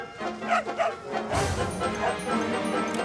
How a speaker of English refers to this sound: Hey, it's Slight's dog. What's he doing here?